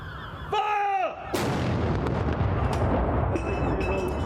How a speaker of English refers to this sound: Gun salutes rang out across the United Kingdom in honour of Prince Philip, who died on Friday at the age of 99, from Woolwich Barracks in London to Hillsborough Castle in Belfast, Cardiff Castle and Edinburgh Castle.